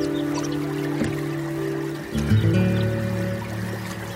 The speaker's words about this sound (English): All I can hear is a bird song, a lap of water as I paddle through this still river. Sun is just turning the banks golden.